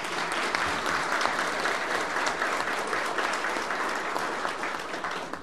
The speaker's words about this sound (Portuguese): Então, uma salva de palmas para quem veio.